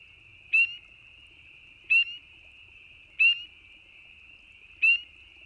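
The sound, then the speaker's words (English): Four loud, high, upslurred breeding peeps from a male spring peeper frog, spaced evenly about a second and a half apart over a steady high-pitched chorus drone in the background. “As you might guess, the spring peeper is named for the breeding call of the male, a loud chirp or peep that is usually repeated every second or two.”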